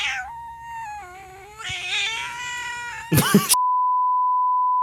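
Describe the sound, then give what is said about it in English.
A cat lets out a long, drawn-out meow into the microphone, wavering in pitch, followed by a short noisy burst and then a steady electronic beep tone. “I have a kitty cat. Would you like to say anything to them? Go ahead and say it in the mic.”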